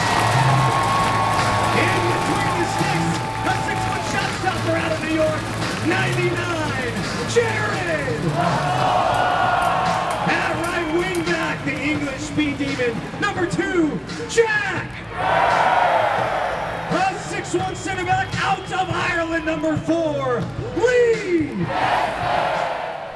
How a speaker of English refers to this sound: There was fireworks going when the team was introduced and the fans roaring the name of each player as they were being introduced.